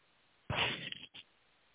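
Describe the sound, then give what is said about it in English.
A short burst of rustling lasting about half a second, followed by a second quick rustle, heard over a faint, muffled telephone-line hiss with no one speaking. “Is that rustling coming from him or from you? Probably from me.”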